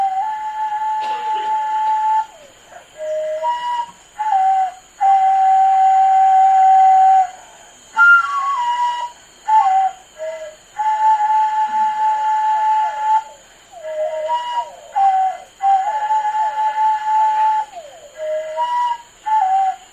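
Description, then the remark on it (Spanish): A breathy, whistle-like instrumental melody of sustained notes and sliding pitches plays over a steady, continuous toad call that hums beneath it throughout. No one speaks. “Este toque instrumental tiene como telón de fondo el sonido de una especie de sapo que forma parte de esa dualidad, que formaba parte de esa dualidad.”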